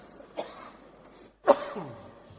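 A Buddhist lay follower gives two rough coughing bursts with throat clearing, a softer one first and a louder, harsher one about a second later, with no talking.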